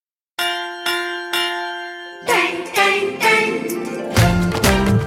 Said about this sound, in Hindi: सुनो घंटी बजी स्कूल की, चलो स्कूल तुमको पुकारे